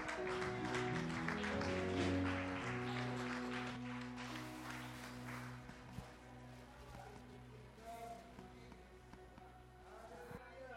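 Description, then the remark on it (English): An audience claps for Jesus in a dense, continuous patter, with sustained musical tones underneath at first and scattered voices mixed in, the clapping thinning slightly toward the end. “Are you clapping or you are not clapping? Clap for Jesus.”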